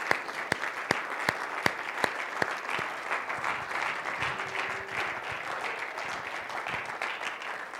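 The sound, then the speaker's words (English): An audience claps in praise of the Lord after a prayer: a few sharp, distinct claps at the start quickly swell into sustained, dense applause from a roomful of people, with no talking. “Would you give the Lord a hand clap of praise today?”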